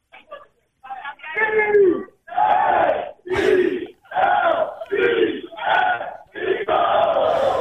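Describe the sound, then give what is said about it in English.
A crowd of about 100 Eagles fans loudly chants an Eagles football cheer, shouting a string of strong, evenly spaced syllables in unison, with each burst of voices ringing out before the next. “Do you think you could start an Eagles cheer around there and they would do it?”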